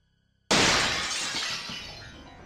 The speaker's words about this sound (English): I don't know how long I was out for, but I woke up to the sound of my window shattering.